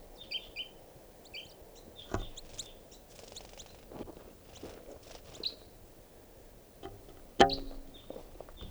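juvenile bird calling

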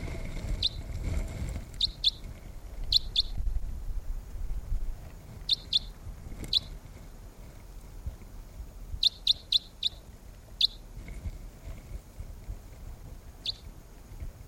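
wild birds calling softly

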